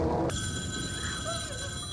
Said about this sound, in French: Le téléphone a sonné. Il se lève. Prend le téléphone.